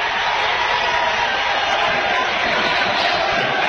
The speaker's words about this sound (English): He takes his guy off the bounce, gets in the paint. Shot's taken and good. And the crowd explodes.